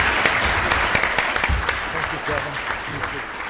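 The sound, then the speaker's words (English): An audience at a City Club of Boise forum in Idaho applauds the candidates AJ Blukoff and Paulette Jordan, steady dense clapping with a few voices murmuring underneath. “As I hand out the traditional City Club mugs, please give a round of applause to our candidates, AJ Blukoff and Paulette Jordan.”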